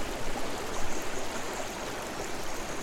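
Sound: flowing river water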